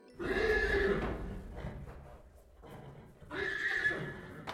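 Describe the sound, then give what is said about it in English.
A horse neighs loudly, two shrill, wavering whinnies separated by a short stretch of quieter snuffling and low rumbling. “But we're not going to bother with any of that today, because today's story is about a psychic horse.”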